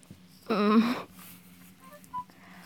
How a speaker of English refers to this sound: The Bitty beep? Who the fuck is texting me?